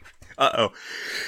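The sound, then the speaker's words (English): A single sharp sneeze erupts, a short loud burst that trails off into a soft breathy hiss. “Bless you.”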